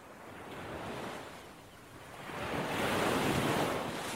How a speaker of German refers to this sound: Das ist das Meer. Schon klar, aber es klingt irgendwie sehr nah, oder nicht?